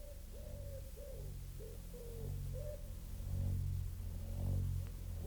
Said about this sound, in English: The house all empty, the doors standing open. Only the wood pigeons bubbling with content, and the hum of the threshing machine sounding from the farm.